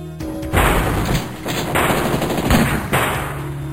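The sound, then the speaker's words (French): Loud, rapid gunfire from pistols, machine guns and rifles rattles in long sustained bursts with brief gaps between them, crackling continuously, in a training room, with no voices over it. “Hé, en plus, y'a plein de flingues. Des pistolets, des mitraillettes, des fusils.”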